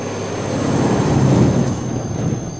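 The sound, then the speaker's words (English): A big truck rumbles past on the road in Ludlow, its deep engine roar swelling to a peak midway and then easing off as it moves away. No voices. “One hell of a big truck.”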